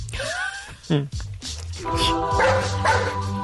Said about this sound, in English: That was the good dog from earlier.